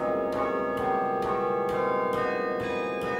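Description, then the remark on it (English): Refurbished church chimes of 21 bells, one of them newly cast at a foundry in Ohio, ring in a steady, rhythmic peal, each new strike landing about twice a second over a thick, lingering wash of overlapping tones. Loud and full, with no voices. “And so as we listen to the chimes now that are 21 bells, one of those new ones is because of a gift”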